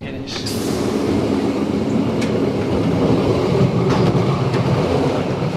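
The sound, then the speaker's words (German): A passenger train of 11 cars, 44 axles and about 300 metres long runs from Erstfeld to Ticino. It rolls steadily along the rails with a constant low rumble, faint rhythmic wheel clicks and occasional brief high squeaks, all at an even, loud level. “Andrea Keller hat den Zugsbegleiter auf seiner Fahrt von Erstfeld bis ins Tessin begleitet”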